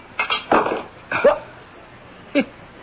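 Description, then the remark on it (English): A heavy wrench strikes a window pane several times, each hard knock ringing briefly with a bright, glassy tone, the hits coming in an uneven sequence with short pauses between, fairly loud. The wrench bounces off and the glass does not crack. “It bounced right off the window pane. Look, the glass isn't even cracked.”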